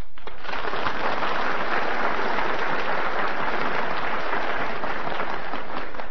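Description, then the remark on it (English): A studio audience of some 700 to 800 people breaks into sustained applause, a dense, steady wash of many hands clapping at once, loud and even throughout with no voices standing out. “And just like the audience in the studio tonight applauded, my applause being only of one, really I'd like to multiply it by the 700-800 people that are in here.”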